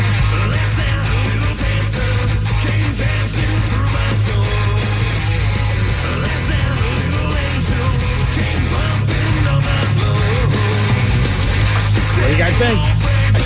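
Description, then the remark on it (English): A loud, dense glam metal cover song plays throughout, with driving distorted guitars, heavy bass and pounding drums filling the mix at a steady, energetic pace, no talking over it. “And they did a cover, and they kind of turned the song more into like a glam metal vibe.”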